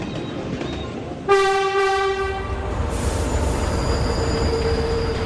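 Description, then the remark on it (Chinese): A train pulls in to a station over a steady low rumble, with a loud, sustained horn-like squeal starting suddenly, then a thin high-pitched wheel screech lingering as it slows; the train stops there for only two minutes. No voices. “因为火车的停靠时间只有2分钟。”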